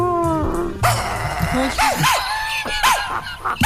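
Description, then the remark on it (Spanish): A person imitates a dog talking in dog language, producing a string of short, rising-and-falling howls and yips in quick succession, loud, with a bit of background chatter. “Pero habla en perruno. ¿Cómo es el perrito Pei?”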